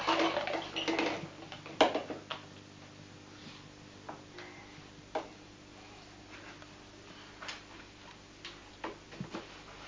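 household object, dishes and cutlery clattering

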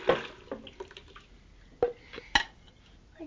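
household object, water splashing

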